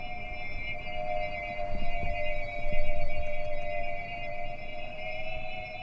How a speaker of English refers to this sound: That eerie thrumming, that noise of flying saucers from an old science fiction film, that's birds too. Those are pigeon whistles. Pigeon whistles are tiny flutes.